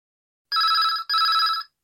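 A telephone rings with two quick back-to-back bursts of a bright, trilling electronic bell, loud, then stops, on a call to King's Restaurant. No one speaks.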